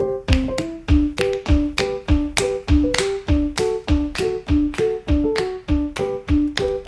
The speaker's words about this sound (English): Alright, then hit your fist with your other hand like this.